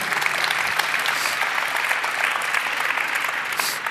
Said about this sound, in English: All right. Thanks for that. Great round of applause, please.